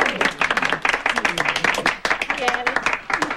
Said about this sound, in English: We got a terrific girl singer, and at this point in time, like to have you all kind of get together. Big round of applause to welcome Pert and pretty little, Alice Hyatt. Hyatt, Hyatt. Let's hear it for Hyatt.